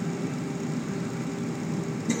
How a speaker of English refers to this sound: The engines are whining.